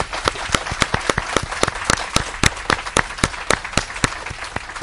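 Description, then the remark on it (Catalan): A crowd applauds steadily as a greeting to the families of those present, near the island of Sardinia, with many hands clapping in a dense wash and a few sharper, louder claps standing out at a fairly regular rhythm throughout. “Doncs bé, ja que hem creat l'ambient d'aplaudiments i una miqueta de claca, si em permeteu l'expressió col·loquial, mentre estem ja molt a prop de l'illa de Sardenya,”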